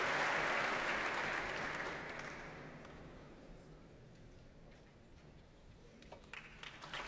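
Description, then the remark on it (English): A packed Royal Albert Hall audience applauds Yuri Turchinsky, leader of the BBC Philharmonic, as he walks on stage. The clapping is a dense, roaring wash that gradually thins and softens, leaving a few sharper individual claps standing out toward the end. “Now, the applause you're hearing now is for Yuri Turchinsky, the leader of the BBC Philharmonic, making his way on stage in front of a packed Royal Albert Hall.”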